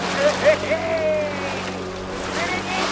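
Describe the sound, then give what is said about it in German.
A motorboat carrying traders and fishermen across Lake Victoria from the Kenyan mainland drones steadily while water rushes and slaps against the hull, with a few brief higher-pitched calls rising over the noise in the first second. “Das Motorboot pflügt durch die Wellen des Viktoriasees.”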